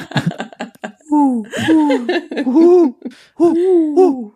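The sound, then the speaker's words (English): A person imitates an owl with a series of rising-and-falling vocal hoots of "who", fairly loud, following a brief bit of speech at the start. “He's gonna like lunge at you in a second because he thinks you're an owl.”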